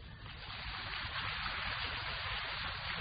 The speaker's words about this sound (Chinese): 鼓掌不要鼓得太热烈，鼓得太热烈不是太好，对不对啊？